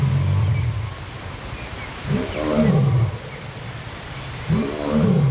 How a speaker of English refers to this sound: But what you may not know is that lions roar in what's recorded as a roaring bout. So they actually start off with a series of soft moans that develop into these roars.